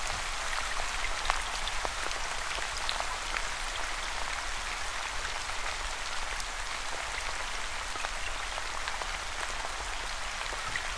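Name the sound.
rain falling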